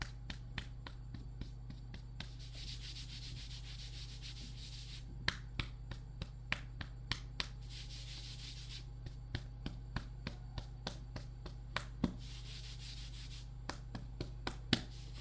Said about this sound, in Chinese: 又咳嗽了，帮你拍拍背。